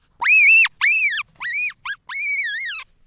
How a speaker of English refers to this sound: And that got me asking, you know, what's going on with this scream? What's going on with this sound? Ladies and gentlemen, the marmot scream.